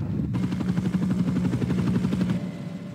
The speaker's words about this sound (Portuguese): Sky de helicóptero, da hora.